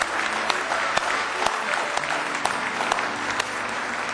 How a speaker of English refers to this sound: Do you love the Lord with all your heart? Let's give him a real good hand clap of praise in the house of the Lord.